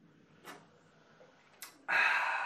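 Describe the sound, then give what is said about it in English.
Carbonated Diet Coke fizzing in a can: two sharp clicks, then a loud, steady crackling hiss of bubbles that starts abruptly and keeps going to the end. No one talks. “Listen to the bubbles.”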